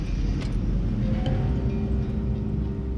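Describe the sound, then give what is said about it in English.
Steady engine and road rumble of a car being driven to work during a strong windstorm, a continuous low drone with a faint higher hum on top and no voices. “So she got ready, headed out the door, and got in her car to head to work.”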